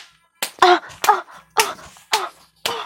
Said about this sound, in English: Slap me. Slap me.